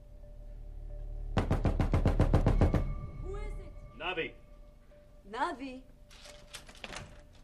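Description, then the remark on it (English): A rapid burst of about a dozen loud, heavy blows pounds on an apartment door in quick succession as someone hammers impatiently after getting no answer, then stops; afterward a voice speaks in short, inflected bursts. “When there's no answer, he hammers impatiently.”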